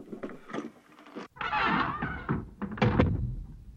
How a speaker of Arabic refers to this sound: ويقتلع الإمام علي عليه السلام الباب ويقول: سأجعل الباب جسرا على الخندق لعبوركم، وادخلوا الحصن غانمين.